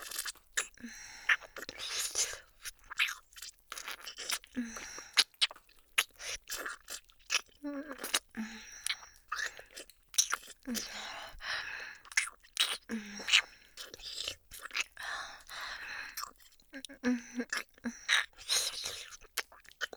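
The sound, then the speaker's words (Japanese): Ear-licking mouth sounds: a steady, irregular stream of soft wet smacks, clicks and slurps with occasional breathy whispering, fairly quiet throughout and with no clear speech. “このお耳舐めたら、一体どうなっちゃうのかしら。”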